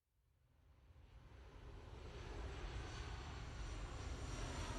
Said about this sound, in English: It's February 2014. As his plane touches down at Pisa Airport, Arthur Brand shifts uncomfortably in his seat.